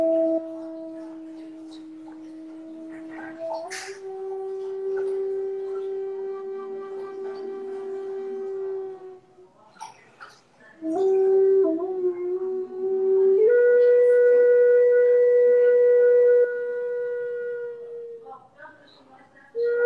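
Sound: imitated wolf howl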